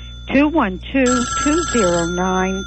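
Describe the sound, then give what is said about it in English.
Telephones ring with pledge calls during a radio station fund drive, warbling electronic tones that overlap in quick succession, fairly loud, with voice-like gliding pitches and a steady high hum running underneath. “I love to hear the sound of those phones ringing because I know with each and every call, this is an opportunity for the information and the analysis to reach you and for you to use it to bring it to other people.”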